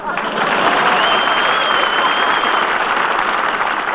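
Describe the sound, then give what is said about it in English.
Sustained, loud applause from a studio audience greeting Groucho Marx, a dense steady clatter of many hands clapping at once, holding at an even level throughout with no voices rising above it. “Applause.”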